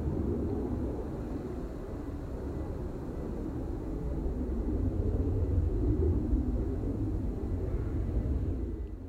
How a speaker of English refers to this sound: Must be the first plane I've heard take off from Leeds Bradford Airport in a while.